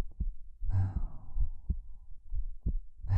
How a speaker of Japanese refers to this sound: 心臓の音聞こえる？そりゃ速くなってるでしょ。